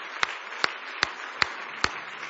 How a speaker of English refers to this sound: Give him a big hand clap of praise. He means the world to you.